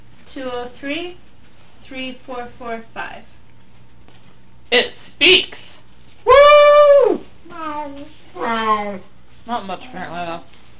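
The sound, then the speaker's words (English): A cat meows once, loud and drawn out, in the middle of a run of short voiced sounds, with other brief chirpy vocal bursts before and after it. “So, do you want a kitty to read a phone number?”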